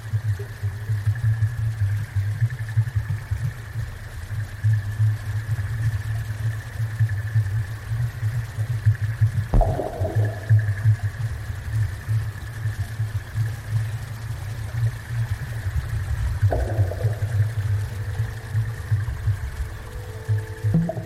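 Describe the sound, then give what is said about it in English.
The River Kelvin recorded underwater through a hydrophone: a steady, engine-like low rumble with a thin constant whine above it, broken by two sudden knocks about seven seconds apart. No voices. “I stuck a hydrophone in the water at various different places along the Kelvin, one by another bridge over there, and then a couple further along where there's like more kind of waterfalls”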